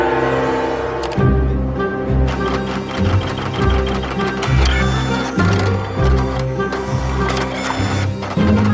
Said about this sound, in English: A part inside the printer has failed, and the manufacturer sends Marcos to technical support.